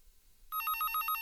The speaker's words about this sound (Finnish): Puhelinkin soi.